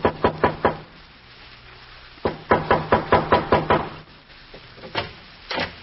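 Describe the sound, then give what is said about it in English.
A quick burst of four firm knocks on a wooden back door by a hungry transient, a pause, then a longer run of about seven raps and a couple of softer taps to finish, with no voices. “There is a knock at the back door.”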